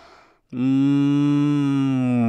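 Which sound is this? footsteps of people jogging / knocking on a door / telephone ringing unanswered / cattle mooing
cattle mooing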